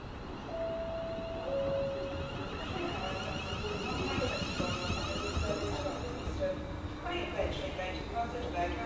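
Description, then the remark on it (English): A train for London Euston pulls into Milton Keynes Central station with a steady heavy rumble and thin squealing tones from its brakes, continuous, while indistinct voices murmur in the background of a busy platform. “The train is pulling up now.”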